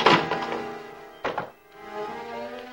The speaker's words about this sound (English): He shoulders the door, then kicks. The door flies open.